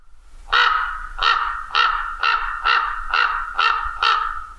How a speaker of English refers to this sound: Common ravens, for example, are actually big fat songbirds, meaning they are ossine passerines. They, of course, sound like this.